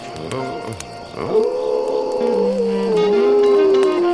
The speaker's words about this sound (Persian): بعضی وقتا زوزه کشیدن یه بچه گورک فرکانسش از صدای بعضی آدم ها بالاتره.